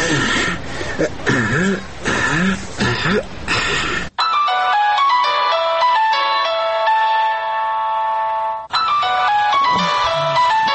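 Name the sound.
phone ringing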